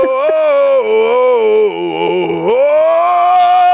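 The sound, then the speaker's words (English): A loud, unbroken sung note held for several seconds by a man using circular breathing, without a pause for breath, its pitch sagging briefly in the middle before climbing back and holding steady, with no talking. “He's circular breathing.”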